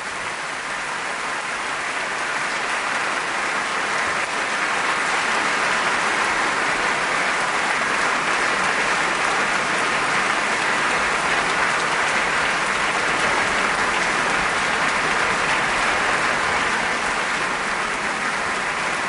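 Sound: concert hall audience applauding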